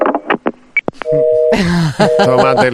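A steady electronic telephone busy tone sounds as a phone call meets a busy line, largely buried under loud, excited voices talking over it, after a few short clicks and blips at the start.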